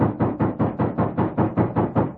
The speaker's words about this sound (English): A moment later, heavy steps crossed his porch. And then, there was a loud knock on the door.